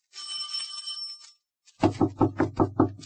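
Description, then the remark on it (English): A bright, ringing doorbell tone sustains for about a second, then after a short pause come seven quick, firm knocks on a door in a steady rhythm. “Should I ring or should I just knock intimately? I'll do both.”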